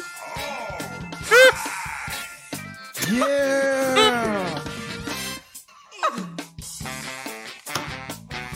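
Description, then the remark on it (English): The main theme song of Nintendo's Donkey Kong game plays at moderate volume, with bright sustained tones and swooping, cartoonish yelp-like sound effects sliding up and down between musical phrases. “This is the main theme song of another and another Nintendo game.”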